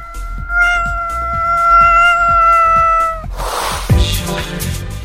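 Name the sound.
cat meowing and yowling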